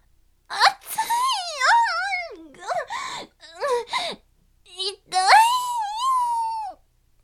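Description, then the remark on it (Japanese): A voice actor performs a loud, childlike wailing cry in several sobbing bursts, the pitch sliding and quavering, with a long drawn-out wail at the end. Unaccompanied. “肛門を押さえて真っ赤な顔で、と子供のように泣き出した。”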